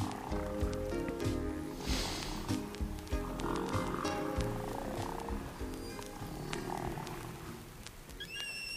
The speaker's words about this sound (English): Listen to the whale.